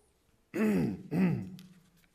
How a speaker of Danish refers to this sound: Begynder man at rømme sig, ikke?